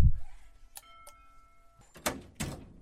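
A doorbell is rung at a house in Vrtojba, two quick chime tones that ring on and fade, followed a moment later by a couple of louder rustling, clattering noises.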